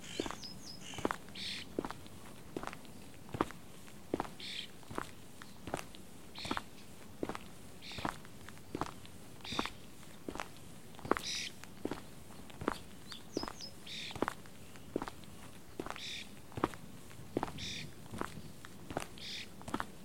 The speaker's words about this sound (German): Den lassen wir links liegen und gehen rechts über die große Wiese hoch zu dieser Mauer.